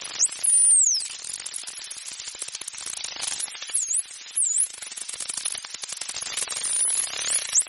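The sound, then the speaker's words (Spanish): Dolphin vocalizations: a dense, crackling burst of rapid clicks that buzzes like electric static throughout, with several high, swooping whistles rising and falling over it. “Esto es un delfín, parece un choque eléctrico.”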